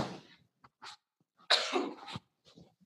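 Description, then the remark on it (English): A forceful sneeze bursts out after a short breathy intake and a few small catches of breath, followed by quiet breathing. No one speaks. “And I'm getting ready to sneeze.”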